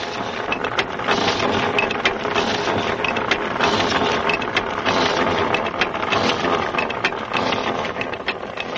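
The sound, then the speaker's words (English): A well drilling machine runs steadily and loudly at a mountain village, drilling for days. Its dense mechanical clatter is punctuated by rapid, irregular knocks and rattles, with no voices over the noise. “Drilling continues.”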